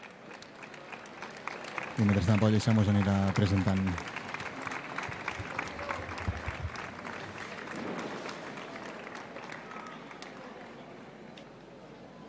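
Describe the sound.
Sustained crowd applause in the Plaça del Coc welcoming representatives of local associations and their companions before the festival proclamation, a dense crackle of many hands clapping throughout, with a brief loud sustained tone near the start and a man speaking over the clapping.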